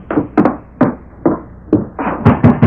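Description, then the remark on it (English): Heavy, urgent pounding on the wooden door of a sheriff's home at night: about eight loud knocks in uneven bursts, some doubled, hammering with no voices. “Bates rode to his home, threw himself from the saddle, and ran to the sheriff's door.”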